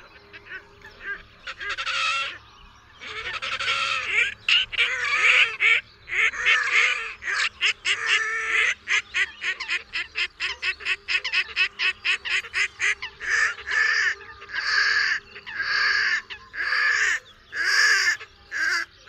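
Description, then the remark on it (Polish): Red-necked grebe calling at night: loud, harsh, braying wails and squeals, at moments like a horse's neigh or a pig's squeal, that break into rapid, pulsing chatter, then a series of drawn-out, whinnying notes repeated steadily, with no talking. “Głosy wydawane nocą przez Perkoza Rdzawoszyjego mogą na przypadkowym obserwatorze sprawić przejmujące wrażenie.”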